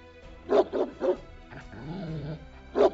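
Dogs bark in a quick cluster of three sharp yaps, then a drawn-out whine, then one more bark. Loud, with no talking.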